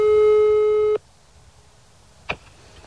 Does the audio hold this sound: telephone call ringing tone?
yes